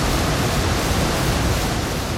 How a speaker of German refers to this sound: hörte Vivaldi das Rauschen des Stauwehrs vor ihnen, wo das Wasser über die Betonmauer hinabstürzte